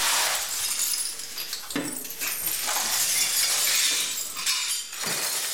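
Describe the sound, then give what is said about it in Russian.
Broken glass being swept up after shelling: a steady, bright scraping and tinkling of shards, with a few sharper clinks as pieces shift, fairly loud, with no voices. “Звон стекол после обстрелов.”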